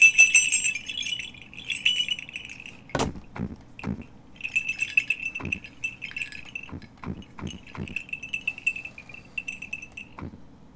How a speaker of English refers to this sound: Yes, I think it was. I think that was Santa. He was landing on the roof. I heard the sleigh bells, and I heard him landing on the roof.